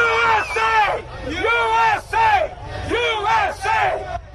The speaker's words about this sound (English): Supporters wearing Make America Great Again hats and carrying American flags chanted outside the courthouse.